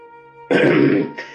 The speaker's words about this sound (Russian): Собственно говоря, занятий у меня определенных нет», — ответил он в смущении, кашляя и сморкаясь в ребус.